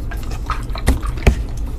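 Wet water sounds: a couple of distinct drips or plops stand out over a soft, continuous sloshing and trickling, with no voices present.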